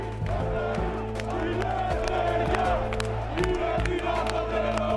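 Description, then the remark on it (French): A dense crowd of about 8,000 anarchist protesters shouts and chants in a steady roar as they approach the Parliament, with scattered whoops, yells and sharp bangs punctuating the continuous noise. “Les manifestants s'approchent du Parlement.”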